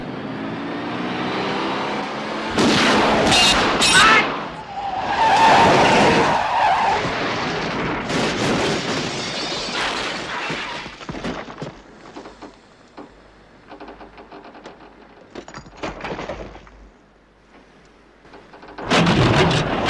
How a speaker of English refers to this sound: Oh, you mean the kicking the car over the edge?